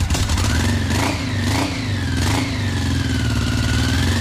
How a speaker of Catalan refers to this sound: Aquesta és una Honda Africa Twin del 89, crec.